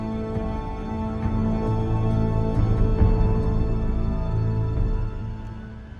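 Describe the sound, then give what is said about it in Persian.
A helicopter engine idles and warms up, a steady, loud mechanical drone with a layered whine that swells slightly and then eases near the end. No voices. “هلیکوپتر داره گرم میشه، خواستم برم یه نگاهی بندازم.”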